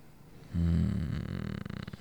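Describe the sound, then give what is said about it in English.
A deep, rumbling growl rises suddenly after a brief quiet moment, loud, then continues with a rough, pulsing rattle before fading slightly at the end. “You hear the low growl.”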